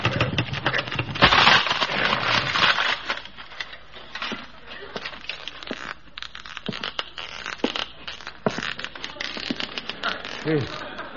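A stuck wooden door is forced open: a loud grinding scrape at first, then a string of uneven creaks, rattles and sharp knocks that gradually grow quieter.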